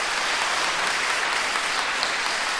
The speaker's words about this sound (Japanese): では、拍手にお応えしまして、アンコールを一曲、皆様ご存知の…をお送りいたします。